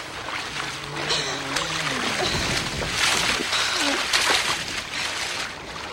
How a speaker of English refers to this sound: They crash into a statue and fall into a fountain. The statue falls.